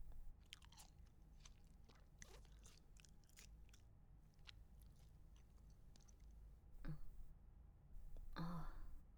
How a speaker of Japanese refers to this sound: 私が咀嚼した後のものを口移しで食べさせた方がよろしいですか？